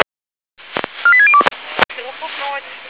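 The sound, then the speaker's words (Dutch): A quick run of about five short, clear telephone keypad tones beeps out in succession as someone dials to call something off again, framed by sharp clicks and followed by a muffled, narrow-band voice talking. “Oké, ga ik die weer afbellen.”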